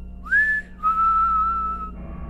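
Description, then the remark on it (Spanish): A person whistles two sustained clear notes while walking toward someone, the first short and rising, the second long and steady, fairly loud with no talking. “Pero una de las cosas que se quedó en su mente es que conforme se acercaba a él, venía silbando.”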